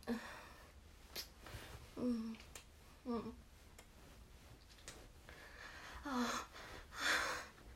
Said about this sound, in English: I want to see that confused look on your face as I tilt your head back and then hear you gasp as I kiss your throat like this.